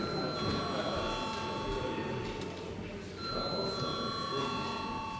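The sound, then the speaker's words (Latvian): A parliament voting bell, called for by the chair just before deputies vote, rings steadily for several seconds, a sustained electric tone holding at one pitch while a low murmur of voices continues underneath. “Lūdzu zvanu.”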